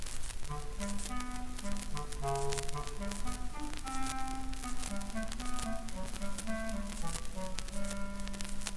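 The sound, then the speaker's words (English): Short, detached clarinet staccato notes representing the cat skip around a low register in a bouncy, playful line, with steady hiss running underneath the whole passage. “The cat by a clarinet staccato in a low register.”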